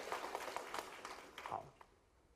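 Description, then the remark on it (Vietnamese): A short burst of audience applause, a crowd rewarding themselves with encouraging applause in a quick patter of claps that trails off after about two seconds. “Hãy tự thưởng cho mình một tràng pháo tay khích lệ.”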